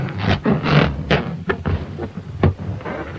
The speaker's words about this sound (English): The sound of fingers being rubbed on a balloon.